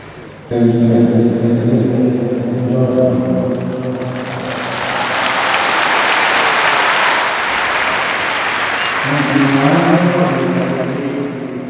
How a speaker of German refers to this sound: Franziskus hat sein Bad in der Menge beendet und jetzt setzt er sich auf seinen Platz und wird die Menge begrüßen. Großer Jubel hier auf dem Petersplatz.